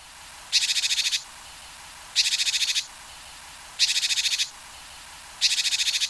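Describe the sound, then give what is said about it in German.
Four bursts of recorded Japanese tit calls played from sound files, each a rapid, buzzy string of high-pitched notes, repeated at an even pace with short pauses between. No voices. “Ist das so ein hysterisches, lauteres Piepsen und das andere eher so ein nettes, heranrufendes Piepsen?”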